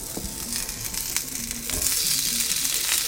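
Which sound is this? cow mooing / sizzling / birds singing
sizzling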